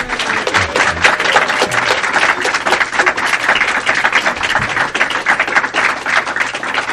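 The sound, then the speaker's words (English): An audience applauds loudly and steadily for author Marcus Borg after his talk, a dense wash of many hands clapping at once that holds at full strength for several seconds with no one speaking. “Everyone there, can you applaud loudly so they”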